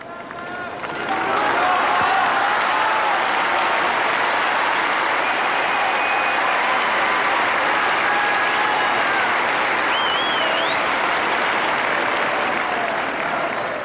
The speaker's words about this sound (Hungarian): Azt hiszem, a kedves hallgatók rájöhettek az előző tapsviharból, hogy valóban zsúfolásig meg van telve a vatikáni Szent Péter tér, rengeteg zarándok van jelen ott.